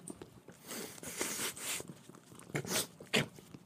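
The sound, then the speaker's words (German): A dog named Penny pants in quick, breathy bursts mixed with wet licking and smacking sounds, fairly soft and irregular, with no one speaking. “Ne, doch, man hört es aber schnaufen und lecken.”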